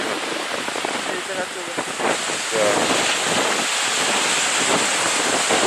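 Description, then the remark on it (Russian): Steady wind roars across the microphone outdoors on a steep bank by the ocean in cool weather, a broad continuous rush with gusty swells, while people talk faintly underneath. “Мы стоим на довольно крутом бережку. Куда ты будешь подходить? Сейчас ветер.”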